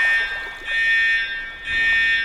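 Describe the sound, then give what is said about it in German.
A loud, shrill alarm rings in sustained electronic bursts, its piercing tone swelling and dipping in roughly one-second cycles, with no voices. “Wo denn das grosse Fest vorbei gsi ist, ist die königliche Beschützergarde ganz aufgeregt zum König geschwommen und hat einen grossen Alarm ausgerufen.”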